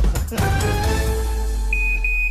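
An electronic tag bracelet imposed by a judge and worn by Nicolas Sarkozy gives off high, steady beeps, two sustained tones back to back near the end, after a muddled burst of noise and a low background hum.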